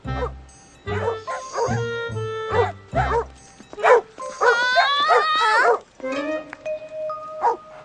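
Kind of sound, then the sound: animal, dogs barking and whimpering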